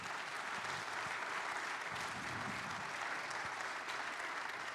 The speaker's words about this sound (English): If you join us on stage, would you give him a round of applause here this morning?